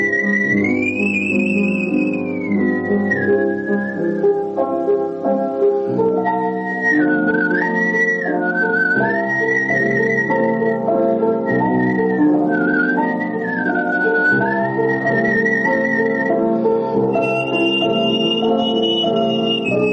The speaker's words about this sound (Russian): И поэтому для меня это был выход моим вокальным, так сказать, пристрастием, моей любви к пению, вот свист под мой комплимент. Я как бы пел свистя.